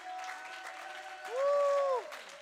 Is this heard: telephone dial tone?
no